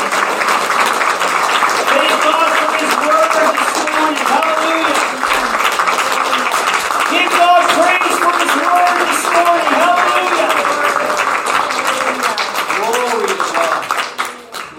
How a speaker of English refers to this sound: And everyone said, Amen. Amen. Amen. Can you give Jesus a clap offering?